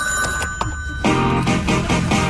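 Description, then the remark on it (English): A telephone rings at Big Jim's House with rapid, bright bell-like trills, fairly loud, before the answering machine picks up and a fuller, denser sound takes over partway through. “It's always easy to reach Big Jim's house. I got to let the machine get it.”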